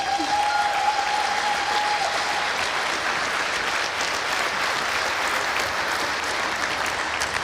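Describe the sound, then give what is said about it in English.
A crowd applauds steadily for several seconds, a dense, even wash of clapping with no pauses, and a faint tone hums briefly at the start, applauding the Logistics Operations Center team as it comes on stage. “Big applause for them already.”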